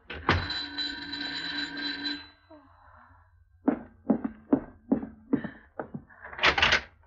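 knocking on a door

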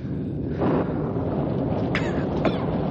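rain falling

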